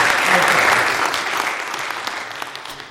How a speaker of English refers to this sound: Okay, big round of applause for all of us.